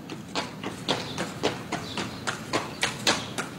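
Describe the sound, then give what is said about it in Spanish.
Hooves of a horse and donkey, each carrying a large heavy sack on its back, clop along at a steady walking pace as they set off from the stable with a man, sharp knocks falling in an even, slightly overlapping rhythm, moderately loud, with no voices. “En cuanto todo estaba preparado, los tres abandonaban el establo y se ponían en marcha.”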